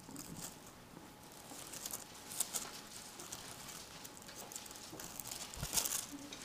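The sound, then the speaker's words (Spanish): Pages of books being turned as listeners open to the Letter to Philemon, many soft papery rustles and flicks overlapping in an irregular patter, with a few sharper crisp swishes standing out from the steady low rustle. “Me encanta cuando se escucha el ruido de las hojas.”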